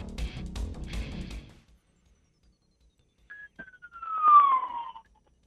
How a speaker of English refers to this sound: Sound like the police are after you. Well, no, ambulance. We just had – I just had to pull over an ambulance on the way by.